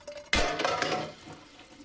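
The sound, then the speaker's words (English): A faucet suddenly opens and water runs steadily into a kitchen sink, a loud hissing splash that continues without letup, with faint kitchen clatter underneath. “She holds her head and turns off the faucet.”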